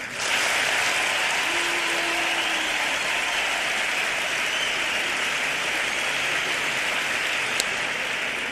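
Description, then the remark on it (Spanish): A crowd applauds steadily to vote for the contestant they think has won, a dense wash of clapping hands that stays at an even, fairly loud level for the whole stretch without fading. “¡Público! ¡Un aplauso! Los que piensen que ha ganado el Colilla.”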